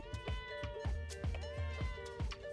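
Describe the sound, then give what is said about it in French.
A cat meows repeatedly and insistently to be let in, several drawn-out, plaintive cries in quick succession, fairly loud, with soft thumping noises underneath. “Le chat qui veut entrer.”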